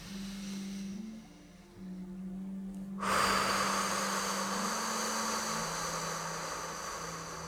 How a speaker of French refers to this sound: Prenez quelques respirations profondes.